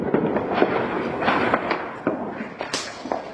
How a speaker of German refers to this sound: Wir haben ja von so einem Hügel aus das Feuerwerk beobachtet und anfangs war es tatsächlich sehr schön zu sehen.